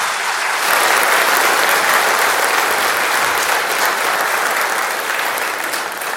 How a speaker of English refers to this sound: I think we should give those four a round of applause.